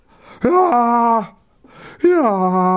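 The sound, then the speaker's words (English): A person performs two loud, exaggerated fake yawns, each a drawn-out voiced groan that starts breathy, jumps up in pitch, then slides down and holds low before trailing off. “I think it didn't help that I'm not very good at fake yawns.”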